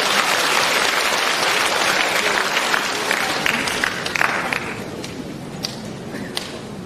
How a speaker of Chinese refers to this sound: 大家掌声欢迎。